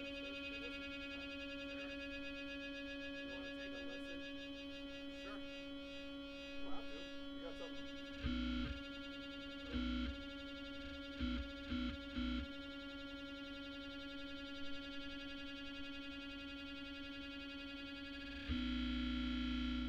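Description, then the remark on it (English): A steady, buzzing tone runs through a distortion pedal, harsh and fuzzy, punctuated by several loud, crunchy bursts in the second half and a final sustained blast of distorted noise. “Ah, my distortion pedal's on. That's why it sounded weird. It sounds like it was distorted.”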